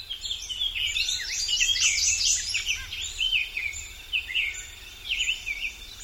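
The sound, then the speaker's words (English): A songbird of a species whose males are bright blue and females plain brown sings a rapid, continuous stream of bright warbling notes and trills for several seconds, with other chirps mixed in over a low, steady background hum. “With the right balance of forest and meadow, this beautiful bird will continue to thrive.”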